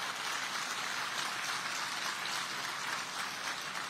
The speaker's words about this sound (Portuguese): quero comentar todos os nossos secretários, nossos gestores, nossos servidores, os nossos prestadores de serviço que colaboraram também, igualmente, pedir uma grande salva de palmas a todos eles de agradecimento.